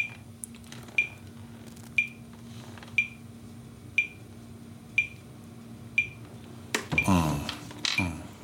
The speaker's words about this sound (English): I'm using a metronome so that my loop stays very steady, so that when I practice with it, it'll be like playing with metronome.